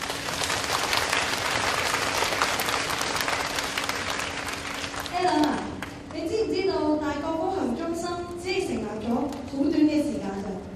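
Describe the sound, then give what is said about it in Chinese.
A large audience at an evening lecture, with over nine hundred tickets given out, claps steadily, a dense, even wash of applause for about five seconds, then it fades as a voice begins speaking over the last scattered claps. “由此可见大家对今次讲座的支持，希望在这里可以以掌声向大家致谢。”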